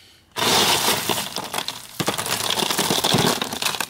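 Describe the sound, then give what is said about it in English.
A giant block of obsidian bursts apart as it is shot, with a sudden, loud glassy shatter, followed by a long crackling rain of breaking fragments and a second sharp burst midway. No speech. “I know I said you guys should come check out this giant block of obsidian later at the bunker after we shoot it.”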